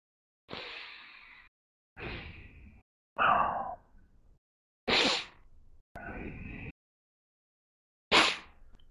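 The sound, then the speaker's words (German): A voice imitates a commentator's heavy, open-mouthed breathing with lip smacking during a fight: six or seven loud, breathy bursts, sighs and gasps, separated by short silences. “Und man hört ihn einfach nur minutenlang schmatzen und atmen.”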